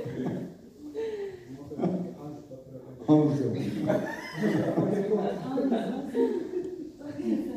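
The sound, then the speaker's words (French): Several men take turns and overlap imitating lion roars with their voices, loud and drawn-out, with bursts of strained vocalizing and a bit of laughter mixed in. “Et donc, faites un bruit de lion.”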